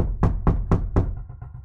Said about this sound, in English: So it's about 8:30 p.m. right now. And then all of a sudden, there's a pounding at the door.